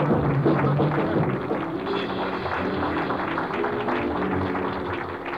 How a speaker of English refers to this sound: I wish you wouldn't applaud so loud. It'll wake me up.